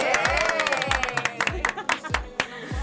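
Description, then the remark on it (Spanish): An audience applauds young people steadily, a dense wash of clapping with a few scattered cheers, over a regular thumping bass beat pulsing underneath. “Y vamos a darle un aplauso a esos jóvenes.”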